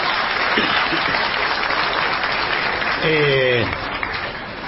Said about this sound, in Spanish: ¿De qué se ríen? Y encima aplauden, es el colmo.